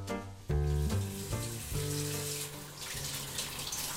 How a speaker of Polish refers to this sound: Zmywam naczynia po śniadaniu.